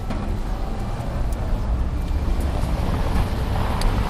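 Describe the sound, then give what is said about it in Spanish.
A steady, dense low rumble of traffic on a city street full of buses, cars, scooters, bikes and people hurrying to work, with engines droning continuously and occasional faint brighter clicks or knocks on top, no voices standing out. “Caminamos por una calle repleta de autobuses, coches, patinetes, bicis, gente con prisa que intenta llegar al trabajo”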